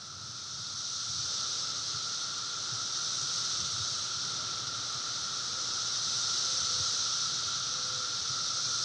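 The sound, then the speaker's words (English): A dense chorus of cicadas buzzes in a steady, high-pitched drone that holds unbroken for the whole stretch, swelling slightly toward the end, with no voices. “Are you hearing that? Have you heard the buzz? Everyone's talking about it. The cicadas are coming.”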